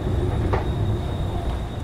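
train station ambience

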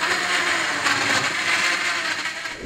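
blender mixing a drink

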